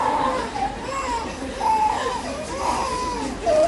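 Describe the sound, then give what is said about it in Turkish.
A voice imitates crying, with wavering, sobbing wails that rise and fall almost without pause for a few seconds, fairly loud. “Deli kendinden daha delisini görünce böyle başlıyor ağlama.”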